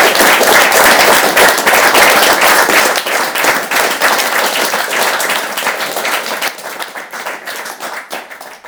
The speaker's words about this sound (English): And I'd like you all to give a massive round of applause.